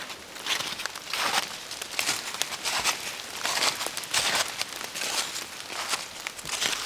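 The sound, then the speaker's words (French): Steady footsteps crunch through a carpet of dead leaves mixed with a few grains of snow in a deciduous wood, fairly loud, each step a dry crackling rustle in an even walking rhythm with no voices. “Tapis de feuilles mortes, mélangées avec quelques grains de neige.”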